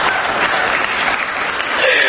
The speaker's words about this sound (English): I don't get why that's a clapping thing.